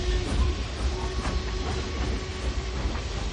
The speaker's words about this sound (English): He watched the silvery train until it was completely out of sight.